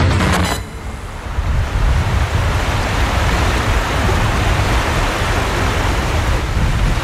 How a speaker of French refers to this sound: Petite rivière, on traverse par un pont.